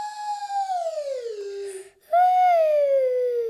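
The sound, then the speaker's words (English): A slide whistle plays two sliding tones, each gliding gradually downward in pitch, separated by a brief pause. The tones are steady and fairly loud, with no talking. “You play Singing Slide by making a slidey sound with your slidey voice, like I'm going to make with my slidey whistle.”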